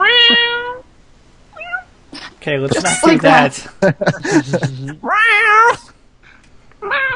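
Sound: cat meowing loudly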